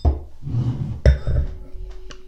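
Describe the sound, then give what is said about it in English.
A single sharp clink of glasses, not champagne flutes, rings out midway and lingers briefly, surrounded by low handling noise and a soft, continuous pouring-like rush as a bubbly drink is poured. “And these are not champagne flutes, obviously.”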